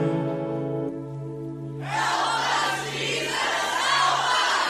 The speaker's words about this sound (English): One day when I was home, I heard a mighty roar. There were 1,000 people right outside the door.